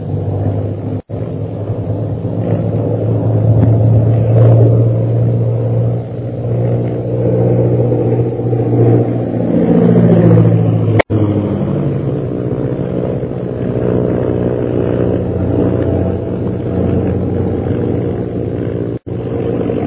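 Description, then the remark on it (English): A loud, steady engine roar drones throughout, like a propeller plane in flight bound for Shanghai, with a rising and falling pitch sweep midway as it banks or dives to lose a pursuing plane; no voices are heard. “I don't know that coming up in this plane with you was such a good idea.”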